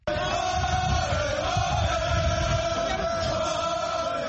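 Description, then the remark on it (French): A huge crowd in Dakar, Senegal, gathered at an opposition leader's home, cheers and shouts in celebration of his release, a dense, continuous roar of many voices with rising cries, loud and sustained throughout. “C'est avec des cris de victoire qu'Ousmane Sonko a été accueilli par une immense foule”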